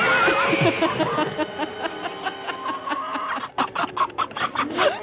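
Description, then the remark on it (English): A busy jumble of farm animal sound effects overlapping one another, including horse and cow, clucking and crowing mixed with other bleats and whinny-like cries, steady and loud, ending in a run of short choppy bursts. “It's the one with a lot of animals. No, it's like horse, cow.”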